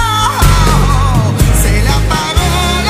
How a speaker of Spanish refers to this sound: El grito, el lamento. Mira. Cuando yo me caí el otro día, lo primero que hice, el grito ese... En la escalera, bueno. Lo utilizan en la Guerra de las Galaxias. Siempre meten este grito